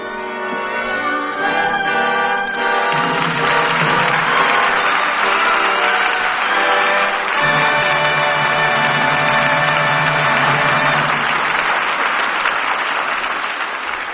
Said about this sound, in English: Your applause places the seal of approval on tonight's play and brings Maureen O'Hara and John Hodiak to the footlights for a curtain call.